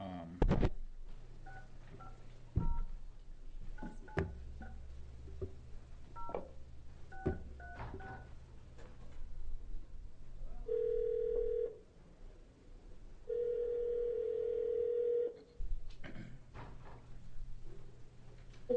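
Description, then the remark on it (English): Touch-tone telephone dialing beeps tap out in quick, irregular bursts as a state Senate Education Committee meeting in Oregon places a call to a witness, then a steady electronic phone tone sounds twice in long stretches, fairly loud over a low background hum, with no one talking. “We're going to go to the phone right now.”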